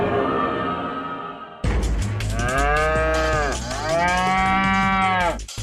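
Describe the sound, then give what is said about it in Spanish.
Two long, loud cow moos follow a brief low rumble, each a rich harmonic bellow that rises and then sags in pitch, with a short pause between them and no talking. “¿Alguna vez te has preguntado cuál es el ganado más importante para el país? Ah, pues el ganado bovino, por la producción de carne y leche.”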